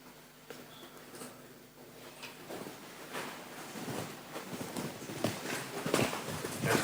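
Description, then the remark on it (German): Footsteps walk across a room, a steady series of soft thuds that grow louder toward the end, with no one speaking. “Aber ich glaube, du warst schon bei den 10.000 Schritten gerade eben, ne?”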